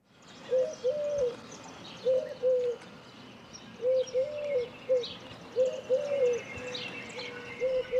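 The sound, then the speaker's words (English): A Eurasian collared dove coos repeatedly, soft low three-part phrases returning every second or two in a steady rhythm, against faint outdoor background hiss. “So, if you haven't heard of the Eurasian collared dove, one thing is you probably have heard this bird before.”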